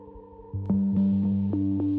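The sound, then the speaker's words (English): A deep, droning roar from a friction drum, played by rubbing a piece of hide stretched across its top, starts after a brief quiet moment, then holds loud and steady with a few rhythmic surges as the rubbing strokes repeat. No voices. “You actually rub a piece of hide that has been stretched across the top, and by rubbing it, that friction creates an echo within the drum and it makes a huge sound, like a roar.”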